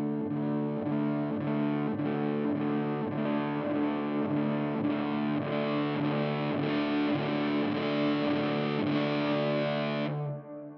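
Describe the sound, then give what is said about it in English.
Electric guitar through a washy reverb pedal placed at the beginning of the signal chain, with distortion slowly brought in, played in a shoegaze style; steady repeated chords blur into a thick, sustained haze, played alone and cutting off abruptly at the end. “Put this at the beginning of your chain, and like your attack is just gone. If I do this. Yeah. Slowly bring in some dirt.”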